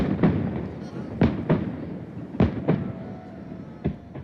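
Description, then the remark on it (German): Fireworks ending the Hogmanay torchlight procession on Carlton Hill burst in a series of sharp, booming pops, about seven bangs spaced irregularly over a few seconds, with crowd murmur and chatter rumbling underneath between the blasts. “Der Fackelumzug geht mit einem Feuerwerk und einer opulenten Laser-Lightshow auf dem Carlton Hill zu Ende.”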